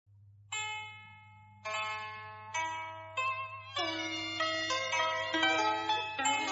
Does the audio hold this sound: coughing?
no